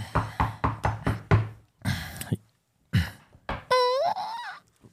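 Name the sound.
knocking on a door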